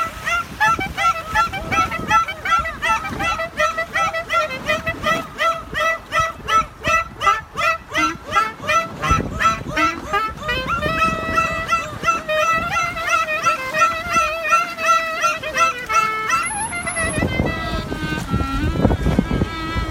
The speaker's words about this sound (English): So, as a compliment to that, we're going to play now a recording of a man playing klezmer music to dolphins. And the dolphins, I don't know if they like the music, but they are very keen on participating with him.